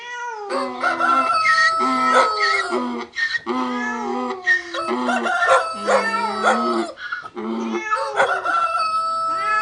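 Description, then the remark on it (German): A rooster crows loudly and repeatedly, its long, bending cries tangled with cat-like yowls in a dense chorus that runs without pause and with no talking. “Der Esel schrie, der Hund bellte, die Katze miaute und der Hahn krähte.”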